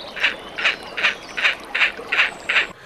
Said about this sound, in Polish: Perkos dwuczuby. Natomiast jak sama nazwa wskazuje, dwuczuby, niektórzy mówią dwuczubny, nie dwuczuby, w okresie godowym, bo u tych ptaków można mówić o szacie godowej i szacie spoczynkowej.